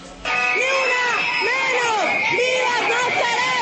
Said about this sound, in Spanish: Estos son los gritos de decenas de hombres y mujeres que se instalaron frente a la sede de la Fiscalía en el centro de la ciudad, todos rechazando los crímenes cometidos por el expatrullero de la policía, Levit Aldemar Ruja.